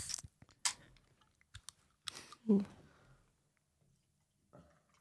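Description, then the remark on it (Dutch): A few sharp clicks and clinks of glass, then a short splashy pour of an alcohol-free gin and tonic into a glass, fairly quiet, with faint fizz and small taps afterward. “Zal ik hem eens uitschenken?”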